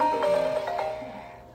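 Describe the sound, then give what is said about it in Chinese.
A phone ringtone from an incoming spam call in China plays a short, bright electronic melody of a few quick notes, fairly loud, with no one talking over it. “中国的垃圾电话，对不起”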